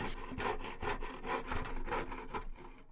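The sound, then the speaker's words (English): A hand saw cuts angled points on timber signs held in a woodworking vise, in steady back-and-forth strokes, about six rasping passes at an even rhythm, fairly loud, ending abruptly in near silence. “Then it was time to cut with the saw.”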